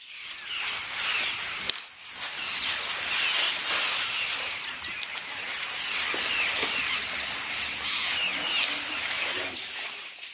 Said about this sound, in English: Certainly they would have made a lot of rustling as they foraged in the bush. The closest we can get to that is listening to a herd of elephants grazing in the Sabi River Valley.